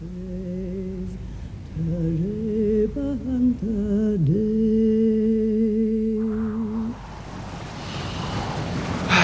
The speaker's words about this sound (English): It's very windy. Only force four. Five, maybe.